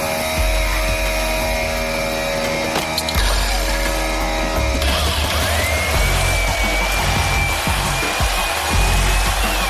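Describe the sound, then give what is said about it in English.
A power saw cuts through a cow carcass to split it, loud, its steady mechanical whine and grinding rattle running unbroken for several seconds, with the pitch shifting midway as the blade bites. “Now, I'm no stranger to power tools, but using them to cut through a carcass was a little”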